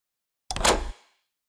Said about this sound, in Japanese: 鍵、閉じられてしまったわね。よかったの？これであなたは明日の朝までもう出られないわよ。